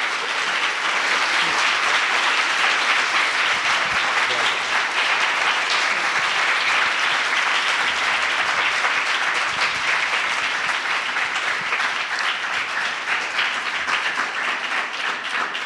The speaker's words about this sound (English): I don't know of many public officials at any level who would be able to carve out this time during the heat of a campaign. So an extra round of applause to you for making time for us tonight. Thank you.